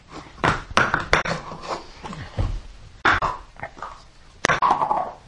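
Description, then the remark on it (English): Several short, abrupt hiccups pop out at irregular intervals, about five sharp little bursts, fairly loud, with soft breathy sounds between them. “You have the hiccups.”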